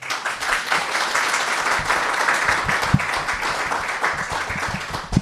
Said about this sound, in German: Also großen Applaus für unsere 4 Gäste.